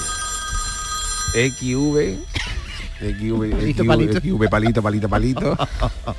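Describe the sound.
A steady electronic ring from a Nokia mobile phone placing a call sounds clearly for about a second before a voice starts talking, with the faint ringing tone lingering underneath the speech.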